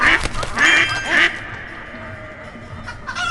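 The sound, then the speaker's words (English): A duck quacks three times in quick succession during an animal-collecting game, loud, each call short and raspy, then the sound fades to a quiet background with no further calls. “Oh, there's a duck and a goat right away.”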